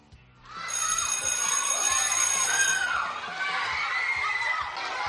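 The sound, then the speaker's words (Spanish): A school bell rings steadily for a couple of seconds at 9 a.m. on the first day of classes for 1,500 pupils in Cejín, Murcia, then stops, over the constant noisy chatter and shouting of a crowd of children. “Mañana sí, a las 9, vuelve a sonar el timbre para 1.500 alumnos.”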